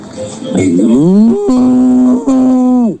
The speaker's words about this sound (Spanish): El toro.